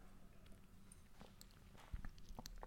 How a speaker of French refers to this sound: Allez, petite gorgée d'eau.